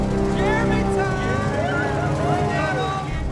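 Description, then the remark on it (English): Norman's truck engine rumbles steadily with a low, droning hum as it pulls up outside the house, while voices murmur faintly over the motor noise. “Norman's truck arrives outside the house.”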